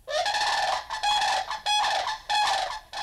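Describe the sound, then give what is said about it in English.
Loud, harsh rolling bird calls from a Florida sandhill crane, repeated in about four bursts with brief gaps, clear with no talking. “That was the weird cry of a Florida sandhill crane.”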